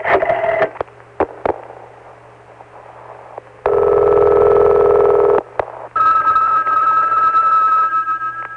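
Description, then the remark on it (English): A telephone being dialed: a few quick clicks and short tones, then a loud steady line tone and a higher ringing tone, with no one talking. “May I use your phone, please?”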